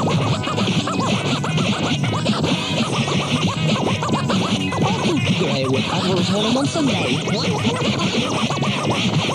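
Dense, loud turntable scratching runs continuously over a full music track, the scratch version of a new single, with rapid back-and-forth record scrubs cutting through the busy beat from start to finish.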